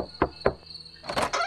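A young girl opens a door: two sharp latch clicks, then a brief rushing, scraping sweep as it swings, with a steady high insect-like whine running underneath throughout.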